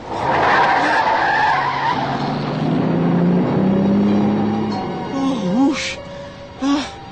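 A near-miss on Interstate 70 after the driver dozed off at the wheel: tires screech in a long, loud skid as a big truck roars past, its horn blaring briefly twice, with a faint gasp or cry in the mix.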